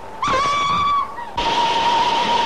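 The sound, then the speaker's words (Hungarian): A sustained, loud train whistle blows as one steady note as the train approaches, then a wash of rushing, hissing noise rises beneath it while the whistle carries on. “Tényleg valami vonat!”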